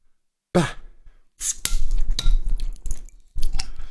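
A bottle of Berliner Kindl Jubiläumspilsener beer is opened: a breathy exhale, then sharp clicks and a crisp pop of the cap, followed by a few short hissy rustles and clinks, moderately loud, with no talking.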